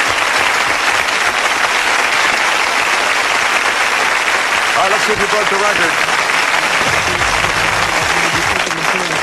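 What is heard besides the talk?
audience applause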